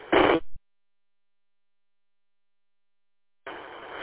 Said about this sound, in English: Static. Static settled down a bit. It's coming down a little bit, man.